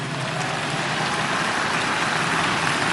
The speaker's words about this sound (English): Those of you who are clapping, your hands will never be empty.